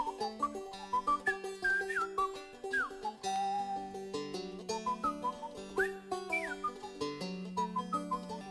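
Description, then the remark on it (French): A bright whistled melody dances up and down with quick slides and trills, played over a steady instrumental accompaniment with no one speaking. “» Et il siffle à son tour.”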